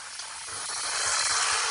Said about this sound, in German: Ja, sieht so aus wie ein Kipper. Würde ich mal vermuten. Ja, klingt auch so.